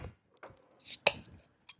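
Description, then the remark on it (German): Drinking glasses for beer are set down on a hard surface: a soft knock, a brief scrape, then one sharp, bright clink with a short ring, followed by a lighter tap. No one speaks. “Hier sind Gläser.”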